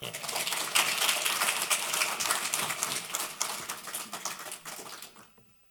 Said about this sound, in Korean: 그냥 열렬하게 박수로 환영합니다.